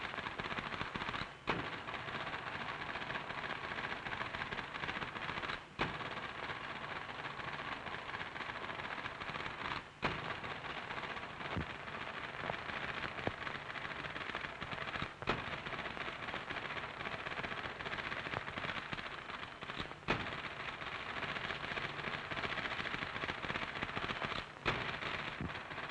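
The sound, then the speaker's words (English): Rapid, continuous clatter of an IBM electric typewriter as a champion typist types at top speed in a speed test, keystrokes blurring into a dense rattle, with sharper louder strikes breaking through every few seconds. Steady, with no voices. “As we saw how skillful typists could become on IBM electric typewriters”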